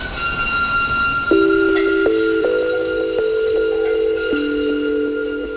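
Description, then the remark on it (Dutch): An old tram rolls along its tracks toward the sea, a steady rumble joined by a motor whine that steps upward in pitch as it picks up speed, continuous with no talking. “Hij presenteerde zijn boek dan ook in een oude tram. En die tram, die reed naar zee.”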